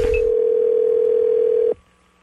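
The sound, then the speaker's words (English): A steady, unbroken telephone dial tone hums loud at a single pitch for nearly two seconds, then cuts off abruptly into quiet line hiss, as a prank call is placed posing as an insurance agent on the Wake Up Call. No one speaks. “So I call back as an insurance agent that has some really crazy bundles for him.”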